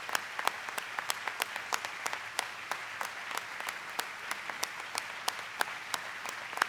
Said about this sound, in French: L'audience s'est élevée pour l'applaudir.